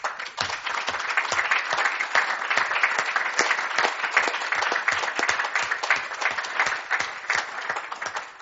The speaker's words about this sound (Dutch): Het gaat je goed en dit applaus is voor jou.